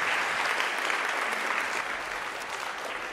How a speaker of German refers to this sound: Applaus aber erstmal für dieses Musiklabor ….